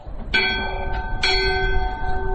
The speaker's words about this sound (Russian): Или вятский колокол.